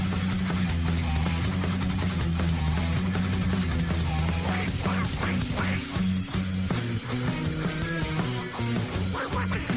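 Loud, full-band music with a steady low bass pattern, punctuated by repeated nasal duck quacks woven rhythmically into the song throughout.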